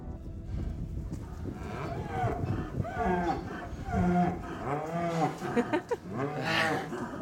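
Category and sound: animal, cows mooing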